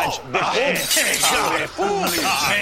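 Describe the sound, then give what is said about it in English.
Repeated crashes of antiques being smashed to pieces at an antiques auction, loud, with bright shattering bursts and raised, shouting voices mixed in throughout. “Between Klingons, who've ended up smashing all the antiques to pieces.”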